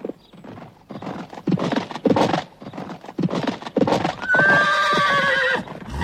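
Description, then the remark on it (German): Rhythmic clip-clop of horse hooves on a hard surface, followed by a loud, drawn-out neigh near the end. No voices. “Viele Gäste kamen damals noch mit der Kutsche oder mit Pferd und Wagen nach Lingen, sodass ihnen die Möglichkeit, sich dort aufzuwärmen, sicherlich sehr gelegen kam.”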